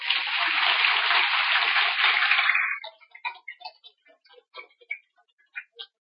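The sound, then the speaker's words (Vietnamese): A dense burst of applause from an audience at a Buddhist Dharma talk, clapping for the Buddha's teachings, fills the first few seconds, then thins out into scattered individual claps that trail off and stop. “Những tiếng vỗ tay cũng cho thấy là các vị đã thấy rất rõ những lời dạy của Đức Phật như là khuôn vàng thước ngọc, giúp cho chúng ta vượt qua được các nỗi đau.”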